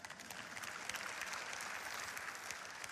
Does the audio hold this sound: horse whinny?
no